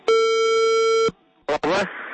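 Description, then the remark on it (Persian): A mobile phone ringing tone sounds once as Radio Azadi calls a listener's mobile number, a steady electronic buzz lasting about a second, then a person's voice briefly answers over a faint line hiss. “خوب حالا بیاید به یک رقمی موبایل زنگ میزنیم.”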